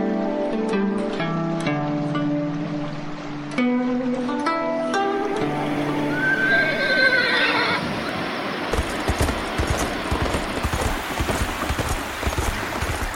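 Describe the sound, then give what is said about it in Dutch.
A horse, a trotter, whinnies loudly in a long, wavering neigh, then hooves clip-clop steadily in a brisk rhythm, with no one speaking. “Nu moet ge eens horen over mijn paard.”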